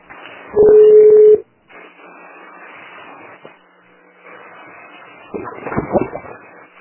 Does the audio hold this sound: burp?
no